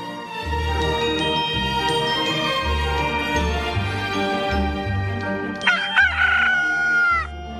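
A single loud rooster crow at dawn rings out near the end, a drawn-out cock-a-doodle-doo rising over steady, gentle background music.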